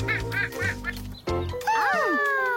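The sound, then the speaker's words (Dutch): A duck in a park quacks three times in quick, evenly spaced bursts, fairly loud, followed by a thump and a stretch of sweeping, whistle-like tones. “Wat is dat? Een eend.”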